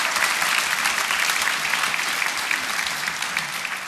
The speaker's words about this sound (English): let's give a big round of applause to Jack, who's doing the sound this evening